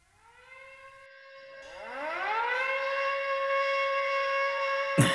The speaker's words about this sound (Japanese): もう空襲警報が鳴ってる。